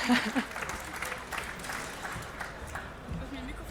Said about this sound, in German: Ich bitte ihn oder sie auf die Bühne. Einen großen Applaus bitte für unsere erste Spielerin.